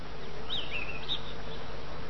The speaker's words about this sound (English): See yourself in a beautiful high mountain meadow. Listen, you can hear the sounds of the meadow. The birds are singing.